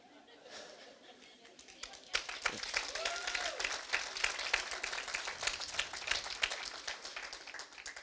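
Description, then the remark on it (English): An audience breaks into applause in response to a speaker's story, a dense patter of many hands clapping that swells suddenly and holds steady, with faint crowd murmuring mixed in. “The reason why you just applauded is the same reason why my heart applauded.”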